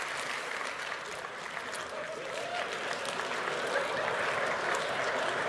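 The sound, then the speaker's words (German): An audience at a live comedy show claps steadily for several seconds after being asked for single claps as feedback, a dense, even patter of many hands at moderate loudness with no one speaking. “Ja, wir machen jetzt ein bisschen Feedback mit Einzelklatschern.”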